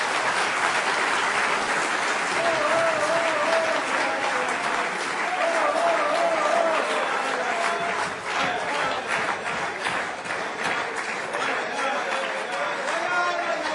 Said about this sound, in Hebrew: מגיע לו כפיים, רבנו היקר.